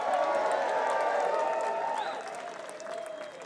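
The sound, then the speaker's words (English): A crowd at the 10th anniversary of the Winter String Band Jam applauds steadily with clapping and cheering, a few shouts and whistles rising above the dense, sustained noise that tapers slightly toward the end. “Let's hear it for that 10-year.”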